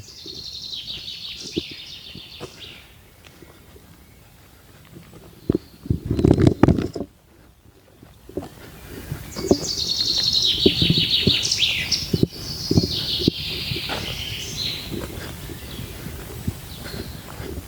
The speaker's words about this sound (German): Das klingt eigentlich so gut, dieses Vogelgezwitscher. Ja. Das könnte schon fast, das, nicht, dass die Leute denken, wir haben da so eine peinliche Tonspur drunter gelegt, ne?